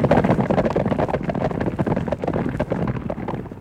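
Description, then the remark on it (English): Bulls' hooves clatter in a fast, steady rhythm in a bullfighting arena over a dense, rumbling roar of noise, loud throughout with no voices. “They may sound like horses to you, ma'am, but they are bulls, and they're in an arena right now”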